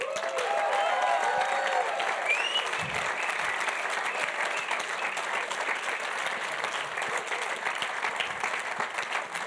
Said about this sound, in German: Probieren wir es nochmal. Vielleicht geht es noch mehr. Also, nochmal klatschen.